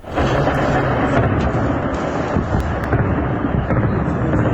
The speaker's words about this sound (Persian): زبانه های آتش و شلیک ضد هوایی، تصاویری که در شبکه های اجتماعی از حملات هوایی گسترده بامداد جمعه در حومه شهر حلب سوریه منتشر شده است.